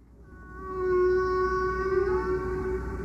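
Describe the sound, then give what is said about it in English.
Whale song: a single long, sustained tonal moan with a rich harmonic, buzzing quality, swelling in over the first second and then holding steady, with no voices present. “Every part of the song had its history, and all the whales were agreeing on what that history was.”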